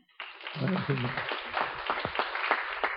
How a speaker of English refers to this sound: Okay, great. Should we give a clap for people who volunteer?